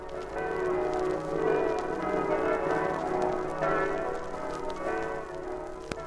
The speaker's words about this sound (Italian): La voce di queste stesse campane sono della Carnia, di Udine, di Gorizia, di Pordenone, di Cividale, di San Daniele, di Osoppo, di Maniago, di Meduno, hanno destato recentemente negli Stati Uniti e nel Canada irrefrenabili nostalgie.